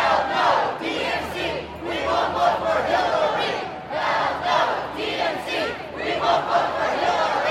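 street protesters chanting

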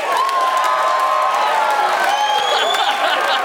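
audience cheering and applause

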